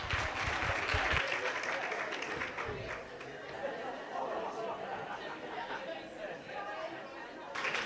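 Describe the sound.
An audience breaks into a burst of clapping for a guitarist about to play during a break, loudest in the first second, then thinning into steady crowd chatter and murmuring voices, with a brief swell of sound right at the end.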